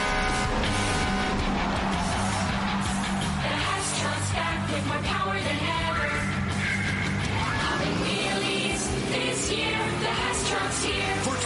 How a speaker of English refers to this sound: The Hess Toy Truck and Dragster with LED lights, racing sounds, and wheelie popping power.